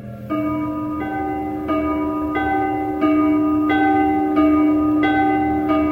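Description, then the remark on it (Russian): A bronze church bell in a bell tower, rung by a bell-ringer, is struck again and again at a steady, unhurried pace, about eight strikes whose rich, humming tones ring on and overlap, loud with no voices. “На колокольню уж лезет звонарь. В колокол бронзовый громче ударь.”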